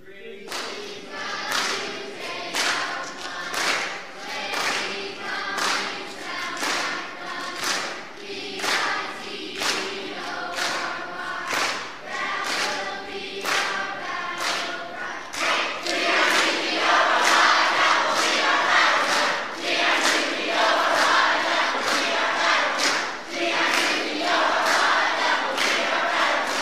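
The green team chants a 'we tied the night' group cheer together, voices shouting in unison over a steady beat of claps or stomps, growing louder and more energetic in the second half.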